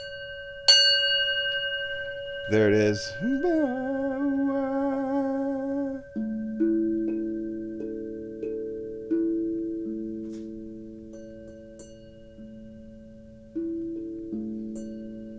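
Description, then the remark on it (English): A single gong is struck once and rings on with a long, shimmering sustain, followed by further overlapping tones; a short spoken phrase briefly cuts in. “But me, all I get is one gong. This one, the ding.”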